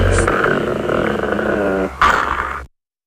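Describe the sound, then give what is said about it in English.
A dog growls steadily and loudly for about two seconds, then lets out a sharp, higher yip before the sound cuts off abruptly. “Think of the puppies.”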